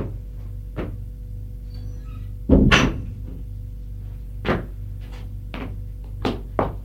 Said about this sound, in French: Il se lève. Va vers la porte. L'ouvre.